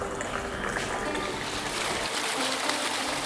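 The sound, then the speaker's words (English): A steady stream of hot water is poured from very high out of a pottery teapot, a continuous splashing trickle with a bright, hissy texture, fairly loud, with no talking over it. “the pot is pottery should be flourished by hot water, so I deliberately pour some water out of the pot. When I'm pouring it, it's from very high.”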